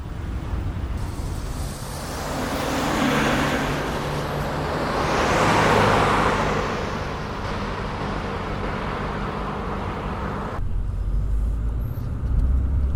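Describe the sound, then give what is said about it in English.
A car drives along a road following a van that carries what a speedboat brought in, with steady engine rumble and tire hiss, swelling as other traffic passes, then the road noise shifts abruptly near the end. No one speaks. “Yes, I'm certain Ivan and I are following the van carrying what the speedboat brought in.”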